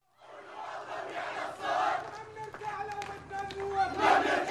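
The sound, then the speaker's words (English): A dense crowd of protesters shouts and chants in the streets of Kiswe, a town on the outskirts of Damascus, Syria, gathered around Arab League monitors; many voices overlap in a continuous loud roar with sharper cries rising above it, sustained throughout. “In the streets of Kiswe, the Arab League monitors have immediately attracted a crowd of protesters. I've just heard someone shouting, "People of Kiswe, what are you waiting for?”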